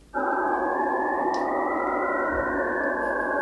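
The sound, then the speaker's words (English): Sonified X-ray scattering of a crystal of a structural plastic used for packaging and tubing, its crystals' sharp scattering rings becoming stable tones: a loud, steady chord of several stable, layered tones starts abruptly and holds evenly throughout, with a faint brief chirp partway through. “And so the crystals produce sharp rings in the scattering, and these rings become stable tones in the sound.”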